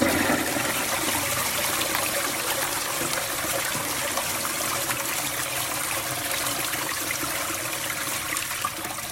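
A hotel toilet at a travel lodge flushing with a steady, loud rush of water that keeps going without a break for the whole stretch, a broad hissing roar with no voices over it.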